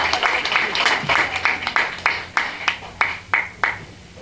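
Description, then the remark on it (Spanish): A crowd at a round-table event on women creators applauds with dense, steady clapping that thins out over a few seconds into a handful of separate, sharp claps before stopping. “Ella es de Ameca Meca y le damos un aplauso, por favor.”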